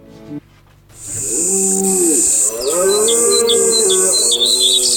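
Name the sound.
birds chirping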